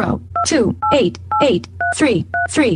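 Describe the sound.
Five short two-tone keypad beeps from a phone dialing into NFB Newsline of the National Federation of the Blind, evenly spaced, each followed by a brief burst of synthetic-sounding speech.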